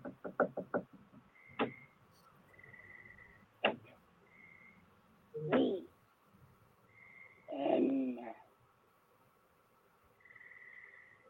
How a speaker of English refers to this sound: The tension escalated as scratching and knocking sounds permeated the audio feed, accompanied by the chilling demand of a voice imploring to be granted entry.